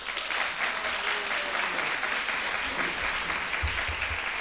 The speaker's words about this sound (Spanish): te da la bienvenida con este cálido aplauso.